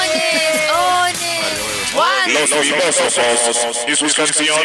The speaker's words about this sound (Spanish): Increíble esto. Tremendo eco.